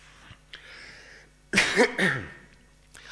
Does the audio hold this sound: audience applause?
no